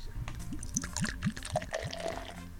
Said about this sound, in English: Whoa. Let me check this out. Let me pour some in my glass here.